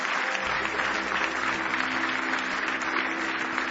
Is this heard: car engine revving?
no